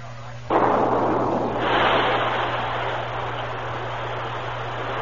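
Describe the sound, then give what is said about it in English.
A dynamite charge set in a hillside near a mine's lower level goes off with one sudden, loud blast, then a broad rumbling roar that lingers and slowly fades over several seconds, above a steady low hum. “The men have the dynamite charge all set. Good. Set it off.”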